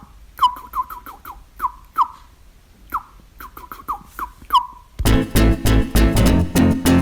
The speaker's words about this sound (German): Also, viel Spaß heute mit den Vögeln.